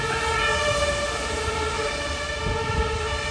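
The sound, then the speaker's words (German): Loud city street noise in Berlin in February, dominated by a steady, sustained siren tone with stacked harmonics, over a continuous low rumble of traffic. No one speaks. “Es ist wahnsinnig laut in Berlin im Februar.”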